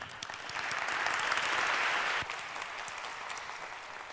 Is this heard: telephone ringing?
no